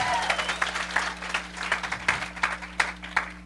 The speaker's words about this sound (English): Hey, let's give Jesus another hand clap. Давайте воздадим Иисусу еще славу.